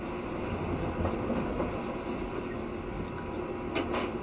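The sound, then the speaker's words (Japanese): Steady low rumble of a train bound for Shinjuku, Japan, next stopping at Shiojiri, rolling along the rails, heard from inside a carriage, with a continuous dense roar and faint rhythmic clacks; no one speaks. “終点の新宿まで車内販売がございます。”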